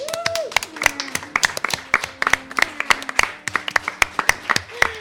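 A group claps steadily for about five seconds, the sharp, irregular hand claps piling into lively applause, with a brief vocal tone rising above it at the start and end.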